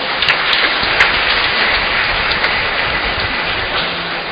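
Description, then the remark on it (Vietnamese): A large crowd of parishioners claps for a priest in a dense, steady roar of applause that holds at full strength for the whole stretch, with no voices heard over it. “Chúng ta chúc mừng, cảm ơn cha một tràng vỗ tay thật lớn.”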